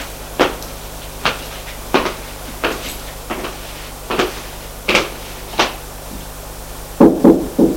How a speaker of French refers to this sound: Frappe à la porte du bureau. Entrez.